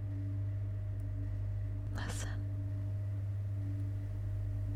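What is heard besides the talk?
elevator humming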